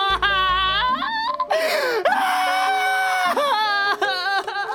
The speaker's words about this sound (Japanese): なんだ 泣いてる。